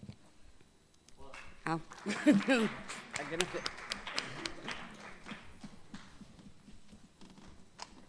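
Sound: sparse applause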